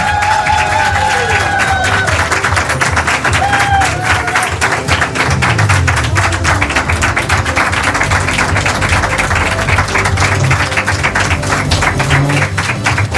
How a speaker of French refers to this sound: Vous tapez des pieds, vous tapez des mains, vous tapez votre tête sur la table. Pour ceux qui ont une table, sinon le voisin évidemment. Il nous faut des improvisateurs, qu'on applaudit maintenant, s'il vous plaît.